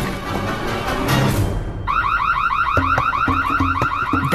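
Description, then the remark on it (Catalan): A house burglar alarm siren suddenly starts blaring, a loud, rapidly repeating electronic warble with rising pitch sweeps, following a brief stretch of rough, noisy rumbling. “Va sonar una sirena. Els pares s'havien deixat l'alarma encesa per si entrava algun lladre i pobre camell va despertar mig veïnat.”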